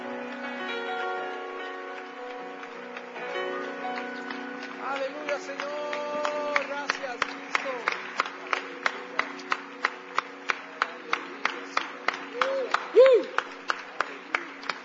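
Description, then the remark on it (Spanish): An audience claps loudly for the King (God) in worship, in a steady, even rhythm, the sharp claps building in after several seconds of sustained tones and voices and continuing to the end. “Dale un aplauso bien fuerte al Rey, porque te ayudó a hacer esa decisión.”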